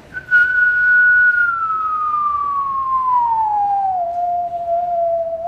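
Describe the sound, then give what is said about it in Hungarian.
A single sustained human whistle, fairly loud, attempting to produce a sine-wave signal, holding a nearly pure tone that glides slowly downward in pitch over several seconds, with faint harmonic overtones audible above it. “és ha természetesen én is tudok színuszos jelet produkálni. Hát nem színuszos, nem jó a fütyülőm, mert vannak benne harmonikusok, ugye, ez azért látszott.”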